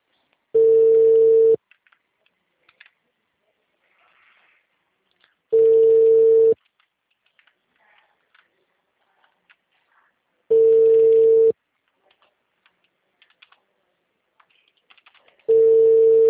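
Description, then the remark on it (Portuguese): A phone call's ringback tone while someone types a WhatsApp message: four one-second bursts of a steady low hum, spaced about five seconds apart, with faint keyboard-like clicks in the quiet gaps between rings. “Enquanto chama, a gente manda no WhatsApp.”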